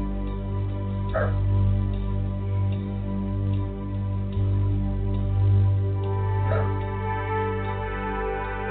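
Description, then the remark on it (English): A couple of short dog barks ring out, one early and one near the end, over a steady low background hum with no talking. “The dogs are barking.”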